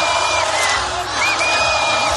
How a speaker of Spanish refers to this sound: ¡Fuerte aplauso, por favor!